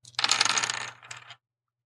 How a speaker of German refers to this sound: Ich würfel jetzt für dich und du schreibst mir mal gerade die Begriffe auf, die ich dir sage, ja? Ja. Yep. Pass auf, ich guck mal, ob wir diesen Würfelsound eingefangen bekommen.